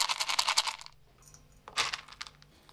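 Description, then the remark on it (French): A small dog named Michiwa, weighing 1.1 kg and about 15 cm tall, eating dry kibble near its owner: two bursts of rapid, crisp, clicking crunches separated by a brief pause, with no voices present. “Mais chez moi, est-ce que tu viens manger tes croquettes près de maman?”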